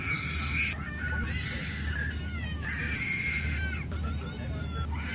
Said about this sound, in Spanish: Vale, todo el viaje, con escalas incluidas, lo pasaron escuchando a un crío llorar desconsoladamente.